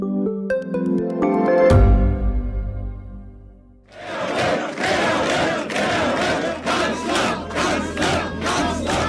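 A short musical flourish gives way to a loud crowd of party officials cheering and whooping at the FPÖ election party in Austria, with rhythmic bursts like chanting that carry on steadily to the end.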